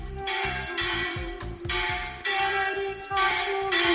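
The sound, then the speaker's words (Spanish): The diocese's church bells peal at 12 noon on Monday 12 June, continuously, with overlapping metallic strikes in a steady rhythmic clangor and a sustained ringing drone beneath, loud throughout and with no voices. “Las campanas de la diócesis han repicado a las 12 de la mañana este lunes 12 de junio.”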